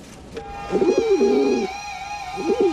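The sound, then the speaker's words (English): A very rare albino pigeon coos in two soft, throaty bursts, a rolling warble near the start and another toward the end, over a faint steady high-pitched hum. “is perched on a roof, inches away from the very rare albino pigeon.”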